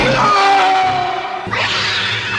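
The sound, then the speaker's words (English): A cat lets out a loud, drawn-out yowl that slides downward in pitch, then breaks into a harsher, raspy screech for the last second. “That cat has killed three people in this household.”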